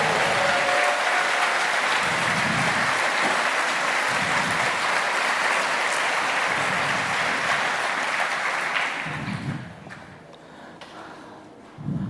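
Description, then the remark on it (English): A crowd claps steadily for several seconds, a dense, loud patter of many hands that thins and fades out toward the end, with a few scattered claps lingering, applauding the event's video and audio crew. “Also, give a big hand of applause of all the video and audio angels in all the rooms.”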